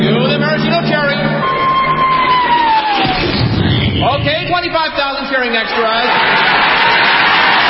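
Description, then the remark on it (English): A huge crowd of 25,000 extras cheers and yells in a loud, continuous roar that fills the whole clip, with a single descending whistle cutting through early on. “Then the Royal Canadian Air Force will fly overhead towing a 10-ton maraschino cherry, which will be dropped into the whipped cream for the cheering of 25,000 extras.”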